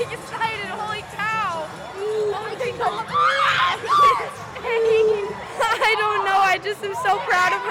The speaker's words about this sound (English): the crowd got closer and closer to losing their minds. Then Jacoby tapped the wall first. The shouting soon turned to crying and hugging.